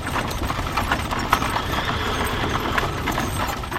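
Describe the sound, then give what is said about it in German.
Hooves clip-clop steadily while a horse-drawn cart rattles and clatters over the cobblestones of Rome at night, producing a continuous dense rumble with irregular sharp knocks and no voices. “die mit Pferdefuhrwerken zu Unzeiten, sprich vor allen Dingen nachts, über das Kopfsteinpflaster der Stadt Rom gepoltert sind”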